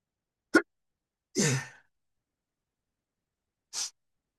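Three short sneezes from a person who has a cold, separated by silence: a sharp first burst, a longer, louder voiced one, and a final breathy, hissing sneeze a couple of seconds later. No one talks.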